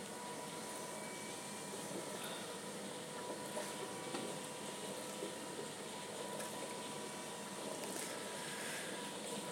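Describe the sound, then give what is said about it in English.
Steady rain patters on a plastic roof over a corridor, a dense, even hiss of countless small drops with a faint crackling texture, holding at a constant low level throughout with no voices. “Uh-oh, it's raining. You can hear it on the roof.”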